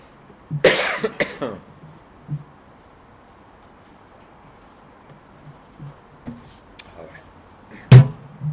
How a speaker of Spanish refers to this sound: Perdonad, pero la mascarilla me ha dado una carraspera.